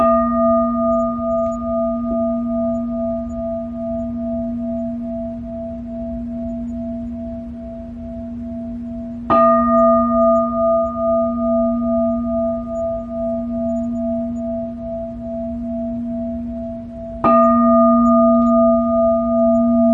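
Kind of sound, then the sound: signal or alarm, bell ringing three times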